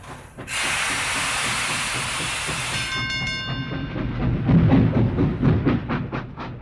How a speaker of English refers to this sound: Trains go ting tang.